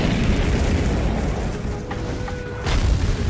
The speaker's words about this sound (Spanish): Luego, la explosión llegaría hasta los objetos y los aplastaría.